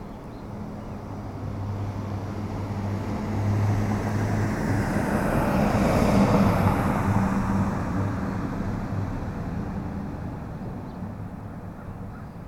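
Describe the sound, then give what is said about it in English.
A single car passes by on a street, recorded first on an Edirol R09HR and then on a Zoom H4n recorder, its broad tire and engine roar swelling gradually to a peak mid-clip, then fading away as it moves off, with a low steady hum underneath. “A car going by down my street, first recorded on the Edirol and then on the Zoom H4n.”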